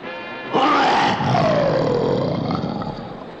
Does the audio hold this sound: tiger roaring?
yes